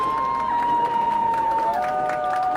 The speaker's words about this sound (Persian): همه با هم قبل از رفتن به افتخار شاهداماد و عروس خانوم یه دست به همراه سوت و جیغ بزنید ببینید.